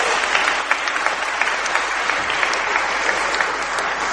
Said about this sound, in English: So a round of applause